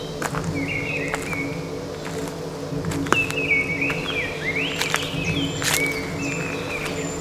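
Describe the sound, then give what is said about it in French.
A blackbird sings a series of fluting, whistled phrases, separated by short pauses, over a steady buzzing drone of insects and occasional faint clicks. “Le merle siffleur.”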